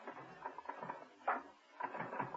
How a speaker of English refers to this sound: To his amazement, Steed found himself gazing at a long line of typists, all typing away at envelopes, throwing them into growing piles in their delivery baskets.